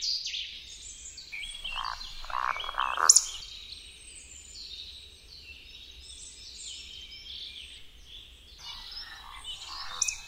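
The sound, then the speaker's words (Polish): A male Eurasian woodcock gives its roding call in an evening display flight: two or three low, guttural, croaking grunts followed by a sudden sharp, high squeak, set against a steady chorus of evening birdsong and frog-like calls. “Ciągnące słonki wydają charakterystyczne odgłosy zwane przez myśliwych chrapaniem i psykaniem.”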